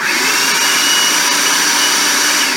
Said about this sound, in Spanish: Cocina tus frijoles negros sin sal, en agua hirviendo únicamente, y cuando ya están fríos y secos, los llevas a tu procesador o en tu caso a la licuadora, lo que tengas, ¿ok?